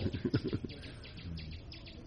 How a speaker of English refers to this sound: That's an annoying bird, right?